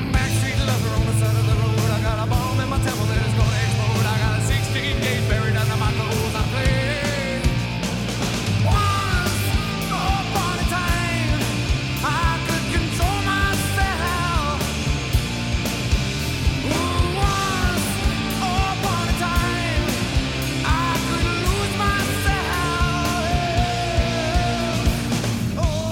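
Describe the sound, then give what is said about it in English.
A loud, dense rock track with distorted electric guitar, driving drums and strained, shouted vocals wailing across the mix, playing steadily throughout without any spoken voices. “Sounded like a lot of yelling and screaming. The guitar was okay, though.”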